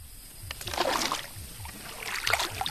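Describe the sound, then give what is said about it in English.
A long-tailed boat is pushed through the calm waters of the Kokong Estuary in rural Cambodia, with two swells of swishing, splashing wash over a low rhythmic thrum, moderately loud, with no voices. “pushes his long-tailed boat through the calm waters of the Kokong Estuary.”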